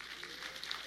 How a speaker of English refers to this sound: Clap, clap, clap.